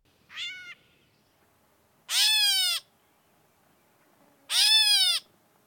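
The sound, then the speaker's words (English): Three nasal, mewing calls like a cat's meow, each about half a second long with rising-falling harmonic tones, spaced a couple of seconds apart; a gray catbird calling clearly, with no talking. “The meow of gray catbirds.”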